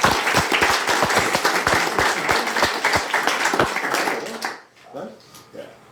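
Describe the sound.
An audience at a quiz applauds with dense, crackling claps for about four seconds, then the clapping fades out and a voice begins speaking.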